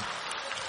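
Audience applause: a steady, dense wash of many hands clapping at once, fairly loud and unbroken, with no voices on top.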